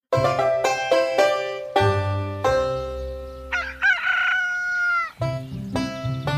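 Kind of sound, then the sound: bird, rooster crowing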